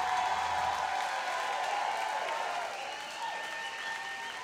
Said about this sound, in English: Before we do jack shit else, we want to get a huge rousing applause for our friends